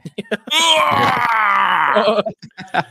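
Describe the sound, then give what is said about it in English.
A man at his house lets out a long, loud, strained scream lasting about a second and a half, imitating a cartoonish power-up yell, between brief bursts of speech. “Probably stop yelling at my house.”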